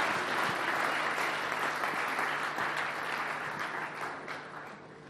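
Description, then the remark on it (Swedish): A large festival audience breaks into sustained, dense applause for the performers on the festival's last evening, Easter Eve, many hands clapping together in a steady roar that stays loud throughout and eases off slightly toward the end. “Ska vi ge dem en stor applåd?”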